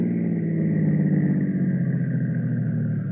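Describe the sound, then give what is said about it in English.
A car engine hums steadily, a low mid-pitched drone with a slight pulsing throb that eases off gradually as the car slows and pulls into a garage to get gas. “the Joneses' car needs gas. There was a garage on the way up. Ah, here it is.”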